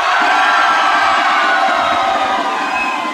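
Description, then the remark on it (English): A large crowd in a school cafeteria cheers and shouts in a loud, sustained roar about that night's football game between Hoxie and Walnut Ridge, holding steady for about three seconds, with many overlapping voices blending into a dense wall of noise. “Let's just take a survey of the people inside the cafeteria area.”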